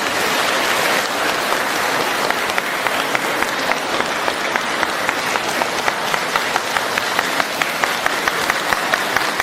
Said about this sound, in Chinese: 现在尊敬的卢军宏台长将为我们当场看图腾解答问题，让我们用热烈的掌声恭请大慈大悲的卢军宏台长。